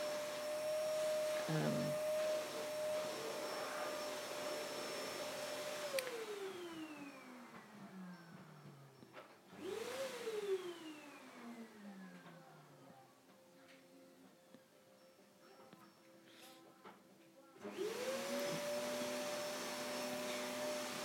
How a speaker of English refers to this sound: Nice to hear a man doing the hoovering, I must say.